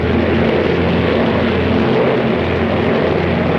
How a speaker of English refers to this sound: Now the bomber skims over rooftops while Clever watches for his target.